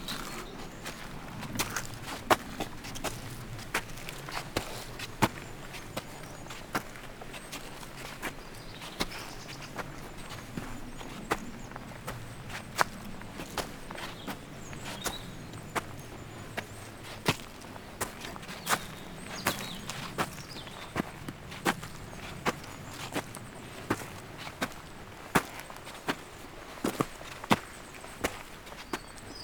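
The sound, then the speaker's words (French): Steady footsteps crunch along a forest track through a forest of mostly spruce with some broadleaf trees, each step a sharp, irregular click repeating every second or so, with a soft hum of background ambience underneath and no voices. “J'aime bien marcher dans cette ambiance où les oiseaux, avec leur chant, bercent la marche.”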